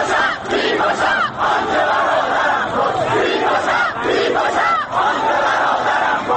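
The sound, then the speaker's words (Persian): A large crowd of protesters, fleeing gunfire amid tear gas, screams and shouts in panic, many overlapping voices rising and falling in continuous, loud waves of terrified cries with no clear pause throughout. “خون کف سیمان جاری می‌شود و مردم وحشت زده فریاد می‌کشند.”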